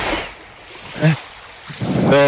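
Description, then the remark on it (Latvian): Steady wind and rushing water noise aboard a boat at sea, about 870 km from shore, with a man's voice briefly speaking over the windy, hissing background. “Es atrodos šobrīd laivā.”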